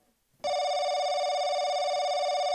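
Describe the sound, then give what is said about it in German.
A single steady electronic telephone tone sounds loud, holding unbroken for about two seconds after a brief quiet moment, with no one talking, as a phone call is placed to an environmental expert in Brussels. “Und dazu telefonieren wir mit unserer Umweltexpertin”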